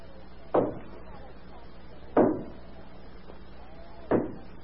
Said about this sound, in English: Sure, I heard. Who do you suppose is banging on the door at this hour of the morning? How in the world would I know? Go down and see. There's somebody knocking at the door.